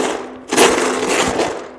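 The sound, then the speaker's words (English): A war sound effect: after a brief quiet hum, loud gunfire and blast noise erupt into a dense, continuous crackling roar that carries on to the end, with no voices. “You know, lots of gunfire, bombs, loud noises”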